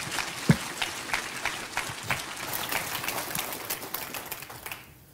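A church audience bursts into applause for the staff's efforts toward mental health and addiction, a dense, steady patter of many hands clapping at a moderate level for about five seconds before it quickly fades out.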